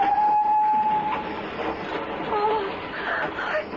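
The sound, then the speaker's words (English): A train roars along in a loud, steady rushing rumble, with a thin metallic squeal rising briefly at the start and again near the end, as it runs through a long cutting between rising embankments and into a tunnel. “In the tunnel, see? The embankments are rising either side of the train.”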